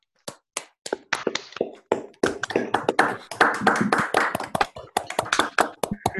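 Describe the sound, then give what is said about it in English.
People unmute on a Zoom video call and clap to thank a lecturer after a lecture: a few separate sharp claps build into a dense, uneven patter of clapping before thinning out again into a few final claps. “And then I think we should all unmute and clap and say thank you”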